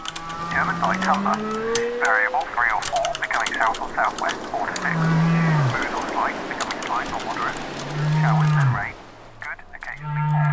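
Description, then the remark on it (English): Several low, drawn-out whale moans that bend up and down in pitch, layered under a busy patter of keyboard clicks and an indistinct speaking voice, a blend of sounds played on the Ambiphone ambient noise generator website. “So should the specific mood that you need require a blend of, say, whale noises, clattering keyboards, and the shipping forecast, then Ambiphone can serve that up.”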